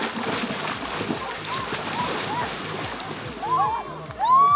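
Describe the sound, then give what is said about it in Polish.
Steady splashing and sloshing as several people calmly wade into cold water for a cold-water dip after a warm-up, with a busy background of voices and a few sharp, excited cries rising near the end. “A potem będzie pewnie do wody.”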